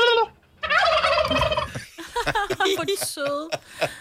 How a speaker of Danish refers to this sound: Og de der kalkuner, de går bare rundt og er kalkuner. Og jeg ved ikke, de går bare rundt og ser dumme ud.